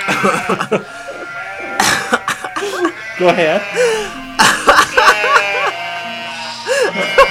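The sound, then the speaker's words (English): A person imitates sheep as a sound effect for a reading of Aesop's fable The Pig and the Sheep, with several wavering, nasal bleats in short bursts, mixed with brief bits of speech, a throat-clearing sound and breathy noises. “I can't believe that sheep would talk like that.”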